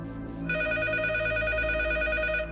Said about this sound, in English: And then the phone rang. And everything detectives thought they knew is blown away.